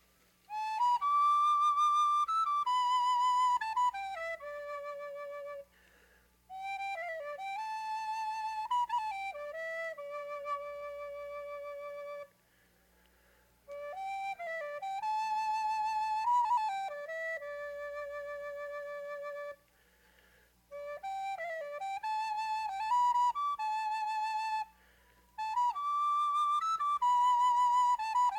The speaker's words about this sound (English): I'd like to play this little flute for a minute. Last year, I remember playing this flute out here, and it's the nicest place in the world to play a flute is in Fox Hollow.